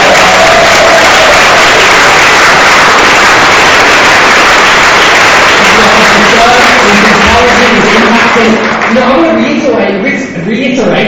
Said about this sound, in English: I want to thank all of the teams who served today, whether it be ushering, baking, preaching, sharing communion, the whole talks, the singing. I'll give you all a round of applause again. That was phenomenal.